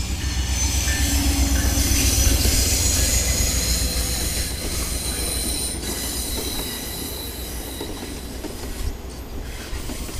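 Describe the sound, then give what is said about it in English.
A train rumbles past, its wheels squealing in high, sustained metallic tones over a steady low roar and rhythmic clatter that gradually eases. No voices are heard. “Here's a train.”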